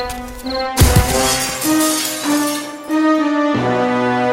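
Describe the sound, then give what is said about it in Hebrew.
A sudden crash of window glass shattering as a monkey is thrown through a house window at nightfall, a sharp bright burst with a brief scattering tail, set against a steady bed of sustained musical tones that continue after it. “עם רדת החשיכה, התקרב הפריץ בחשאי לביתו של רבי מוישה, וסרק את הקוף דרך החלון לתוך ביתו.”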